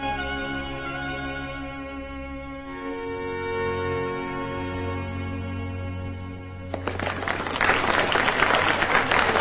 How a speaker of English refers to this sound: Bowing deeply, they clap.